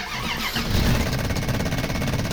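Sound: old truck engine cranking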